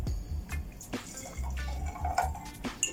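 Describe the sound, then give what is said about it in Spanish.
Mineral water pours and splashes into a glass holding serrano chili and lime, with a steady trickle broken by drips and brief gurgles over a few seconds, and no one talking. “Vamos a anexar después agua mineral.”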